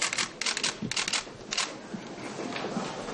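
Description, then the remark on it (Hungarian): Rapid bursts of camera shutter clicks fire in overlapping clusters, sharp and bright, over a steady murmur of crowd noise, with no clear speech, in Jobbik's press room in the parliamentary office building, packed with cameras, photographers and journalists at a press conference with MEP Béla Kovács. “Kamerákkal, fotósokkal és újságírókkal volt tele a Jobbik sajtóterme a képviselői irodaházban. Volt, aki külön le is fényképezte a tömeget.”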